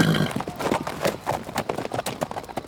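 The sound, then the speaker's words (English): Horse hooves clip-clop in a rapid, steady rhythm, fairly loud, like a horse moving quickly over hard ground, with no voices. “This is not my fault, you dumb horse!”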